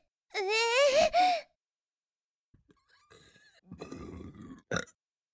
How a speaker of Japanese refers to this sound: あ、なんか上がってきた。出るかも。あ、この感じ出るわ。出る るよ。出る出る出る出る出る、ゲップ出る。